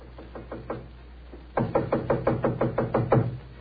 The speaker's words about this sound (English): It gave me a strange feeling as I raised my hand to knock on what once had been my own living room door.